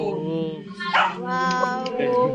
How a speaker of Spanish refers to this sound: Ahí ladró un perro.